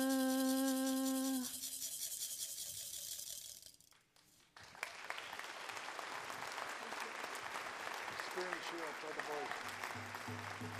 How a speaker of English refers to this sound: Let's give her another nice round of applause for that beautiful song.